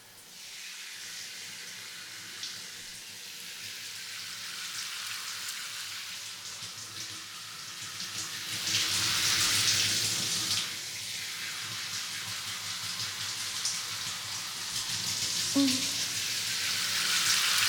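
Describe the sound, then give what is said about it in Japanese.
Shower water streams steadily over hair, rinsing out hair treatment product, a continuous hiss that swells louder midway, with faint splashing and occasional soft handling sounds as fingers work through the hair. “ではでは、シャワーで洗い流していきますね。”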